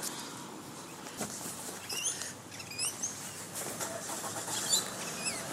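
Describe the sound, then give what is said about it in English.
Bright, short bird chirps and whistles repeat above a steady, low roar of passing traffic in the midst of a shopping centre at Noosa Junction, the calls coming in scattered bursts against the continuous urban hum. “Even here in the midst of the shopping centre, there's a lot of birds. They seem to be the thing that I hear over and above the traffic.”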